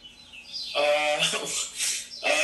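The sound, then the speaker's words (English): Birds chirping in a few bright, warbling bursts, moderately loud, with short gaps between the calls and a faint background hiss. “Must have been the birds tripping, maybe the speaker.”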